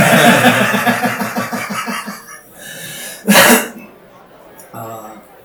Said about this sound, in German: Oh Gott, war der Ausschlag gerade mein Husten. Oder unser Lachen.